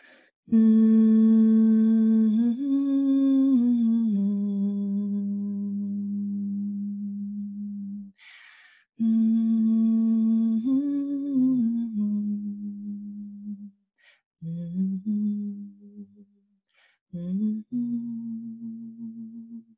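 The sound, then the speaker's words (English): A person hums long, steady low tones, holding each note for several seconds with small pitch shifts, pausing for audible breaths between phrases. The humming is fairly loud, with no other sounds. “So I'm going to hum. Okay, because it's just coming out. Some tones have to happen.”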